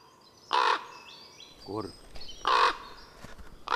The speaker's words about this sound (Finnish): Korppi. Kyllä tämä nyt kuitenkin jotain vähän kuuluu. Korppi siellä rääkkyy.